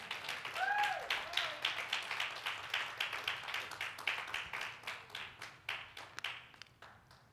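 An audience in a church claps together in a steady, rhythmic beat, the sharp claps continuing for several seconds before thinning out; a brief high whoop rises early on.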